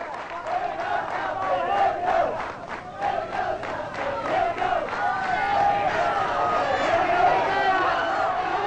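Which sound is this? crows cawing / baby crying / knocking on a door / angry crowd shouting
angry crowd shouting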